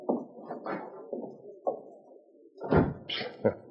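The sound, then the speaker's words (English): A side door is opened and shut: a few knocking thumps and a latch clatter, then a solid closing thud, with a short click after. No one speaks. “Now get out before someone comes back here and sees you. Use that side door.”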